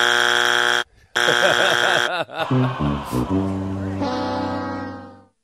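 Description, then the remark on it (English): Two loud, harsh game show buzzer blasts, then a wobbling series of falling tones ending in a long sustained note that fades out. No one speaks. “So he was, I would say, if we did a count then there on dings and buzzes, I would say we were probably like 8 to 10 dings.”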